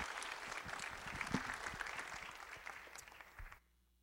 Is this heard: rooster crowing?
no